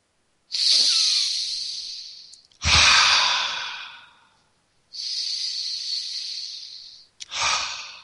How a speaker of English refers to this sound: Breathing in the nature around you and breathing out the nature within you. Try it now, just two breaths.